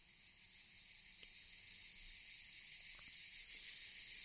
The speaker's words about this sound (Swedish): Nästa dag vid middagstid, då solen stod som högst på himlen och skogen ekade av cikadornas skrik.